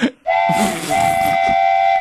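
A loud steam train whistle blows in a long, sustained blast with a faint break partway through, its shrill tone riding over hissing steam and low rumble. No voices.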